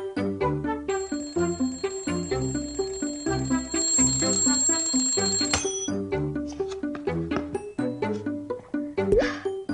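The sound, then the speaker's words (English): An alarm clock, set as a reminder to do a stretch, rings with a steady, shrill metallic jangle for about five seconds, layered over bouncy background music that keeps playing after the ringing cuts off. “Yes, I set that alarm clock to remind myself to do the clock rug stretch, so I wouldn't forget.”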